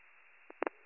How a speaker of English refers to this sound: County 83 Rescue, just confirming we're taking a cancel. That's affirmative. I just dropped cancel tones.